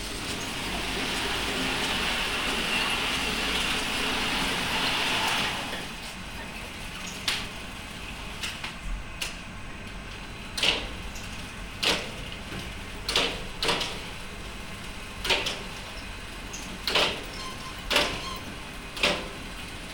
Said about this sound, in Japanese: 裁断機の音が聞こえます。裁断機が、右から左に動いていって、その後また左に帰ってくる感じですね。